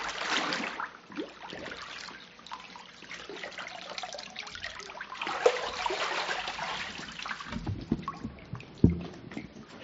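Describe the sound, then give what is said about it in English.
Loud water splashing and sloshing during a baptism by immersion, with strong surges at the start and again midway, a steady churn of moving water between, and a sharp splash near the end. No one speaks. “I baptize you in the name of the Father, the Son, and the Holy Spirit.”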